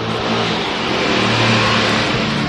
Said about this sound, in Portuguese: Ah, a moto passou bem na hora.